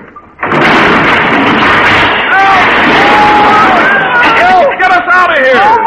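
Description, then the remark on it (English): A door slams and a loud, sustained crash of collapsing walls follows, rumbling debris filling the foreground while voices shout and cry out over the din. “Look out, he's going to slam the door. The walls will cave in.”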